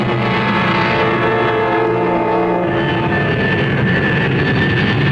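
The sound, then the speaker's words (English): A loud jet engine roars steadily as an airplane takes off, a layered whine of high tones over a deep rumble that shifts pitch partway through, with no voices. “But as I take off, I have this deep foreboding and a secret wish in my heart that the plane would crash and there would be no future for me.”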